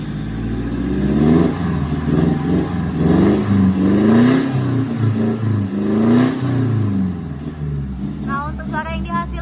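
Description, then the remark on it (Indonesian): A car engine revs repeatedly through a loud full-system GAP aftermarket exhaust with downpipe, roundpipe, resonator and tailpipe, rising and falling in deep throaty bursts, with a brief burble as it settles near the end. “Ini kita pasangannya full system, mulai dari downpipe, roundpipe, resonator, dan tailpipe. Pemasangan di ANPS sudah dilengkapi sama logo kita. Nah, coba kita tes.”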